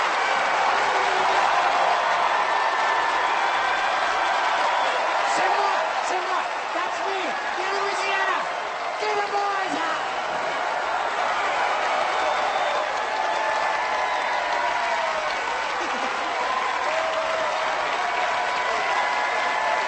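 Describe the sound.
A large audience claps loudly and steadily for the full twenty seconds, a dense wash of applause with scattered cheers and voices rising out of it, as the audience votes by applause between two acts.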